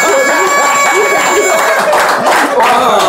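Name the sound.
audience cheering and applauding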